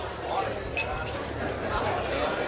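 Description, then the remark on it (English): Glasses clink sharply a couple of times over a dense, steady murmur of many voices, laughter and clattering tableware inside a busy, crowded restaurant. “The clinking glasses, laughter, and pleasing buzz inside a crowded restaurant?”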